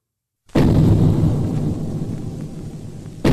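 Godzilla's roar from the film Godzilla Raids Again bursts in abruptly after a short silence, a loud, deep, rumbling blast that holds for nearly three seconds before a second roar starts at the end.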